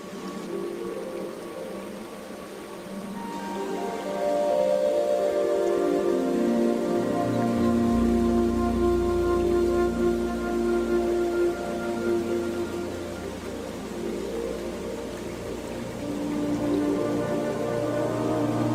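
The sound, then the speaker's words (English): Steady rushing water from a small waterfall at a backyard pond, recorded as relaxation audio, a dense continuous hiss and splash with layered tonal hums rising in pitch beneath it, loud and unbroken with no voices. “Is that like a waterfall we hear behind us?”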